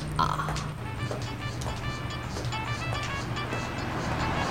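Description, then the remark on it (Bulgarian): A new car's engine hums steadily as the vehicle drives past, a low continuous drone with some higher whining tones over a constant background rumble. “Кара нова кола.”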